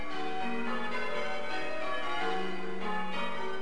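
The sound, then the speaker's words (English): Church bells of All Saints Church at Tarling in North Essex ring out in a steady, overlapping peal at the end of a three-day course for bell ringers. Their rich sustained tones layer continuously with no voices present, fairly loud and resonant. “Bells ring out from All Saints Church at Tarling in North Essex.”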